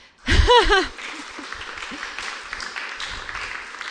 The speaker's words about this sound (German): Ihr klatscht schon und wisst weshalb. Das ist gut.